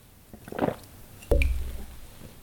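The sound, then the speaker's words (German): Someone takes a sip of water: a soft wet slurp, then a short swallowing gulp, with no talking. “Tja, meine Stimme leidet schon fast mit, ich muss auch einen Schluck Wasser trinken.”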